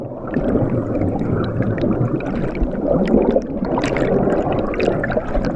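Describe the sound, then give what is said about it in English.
Steady water of the Appomattox River in Virginia gurgling and churning, heard above and below the surface: a continuous wash of bubbling and splashing with a muffled underwater quality beneath it, no voices present. “This week, those sounds above and below the surface of the Appomattox River open an episode about spring signals on and in Virginia's water bodies.”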